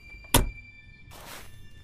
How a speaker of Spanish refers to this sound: El completo silencio que le siguió fue perturbado por el sonido de la puerta del auto cerrándose y las consiguientes pisadas sobre la nieve acercándose a la casa.